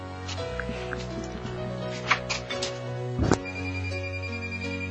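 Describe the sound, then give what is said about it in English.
A phone ringtone plays steadily throughout, a sustained electronic melody of held tones stepping between pitches, with a couple of brief knocks or thumps partway through; it is an incoming call from the boss. “Okay, well, the boss is calling.”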